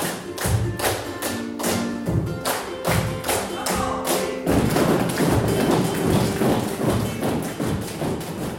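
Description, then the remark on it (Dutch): About twelve women flamenco dancers at a dance school in the Rozenfabriek stamp their feet in quick, rhythmic bursts of sharp, loud thuds, the stamping growing denser and more continuous toward the end, with faint tonal sounds underneath; one guitarist is with them. “Gestamp van voeten.”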